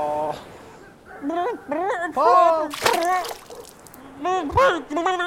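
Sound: dog splashing in water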